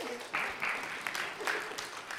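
A short burst of audience applause, a dense patter of many hands clapping at moderate volume for about two seconds, with no one speaking over it.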